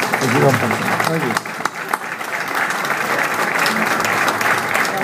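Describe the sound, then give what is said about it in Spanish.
An audience claps steadily for about five seconds, a dense, even wash of applause at a strong level, with a few voices briefly audible at the start, welcoming a player at an event. “Nada, vuelvo a repetir, darle la bienvenida, un fuerte aplauso por ti.”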